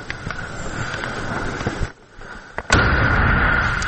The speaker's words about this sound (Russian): Отримали прильот. У мене працювала нагрудна камера. Після прильоту мене контузило, але мене прикрив пікап.